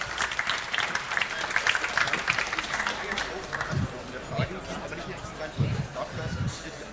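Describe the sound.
An audience applauds for a contestant who has just lost a game, with a dense wash of clapping that is loudest in the first few seconds, then thins out and fades while a few low voices murmur underneath.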